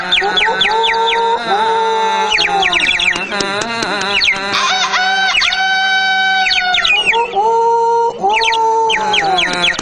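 Loud, overlapping rooster crows fill the scene, several harsh drawn-out calls rising and falling back to back with no pause and no talking.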